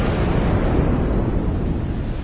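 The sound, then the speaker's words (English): A deep, continuous rumble of thunder rolls steadily throughout, heavy in the low end with a constant roaring texture and no voices. “She raised her palms. Thunder rumbled.”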